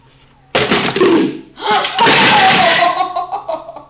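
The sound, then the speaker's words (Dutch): A sudden clattering knock as a bucket tips and strikes a stacked tower, followed by a second rattling jolt and a stretch of jumbled clatter mixed with laughter. “De emmer viel er tegen.”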